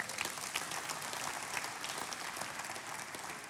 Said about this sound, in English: If you're new to Worship Center, we like to clap. So that's just one of the things we do.